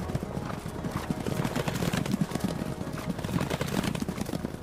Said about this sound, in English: She quietly took their family horse and rode off in the middle of the night to join the emperor's army.